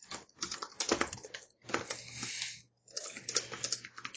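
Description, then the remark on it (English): Rapid, clattering keystrokes on a computer keyboard come in three dense bursts separated by brief pauses, fairly loud, with no one speaking. “furious typing.”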